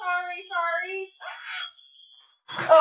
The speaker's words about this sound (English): Oh, no. Ooh, a fire. Yes, the chemicals are setting off the fire alarm.